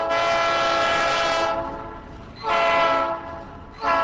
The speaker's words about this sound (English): Union Pacific Railroad began hauling cargo containers out of crowded yards,